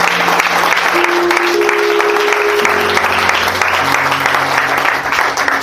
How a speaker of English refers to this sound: Let's give the Lord a mighty clap.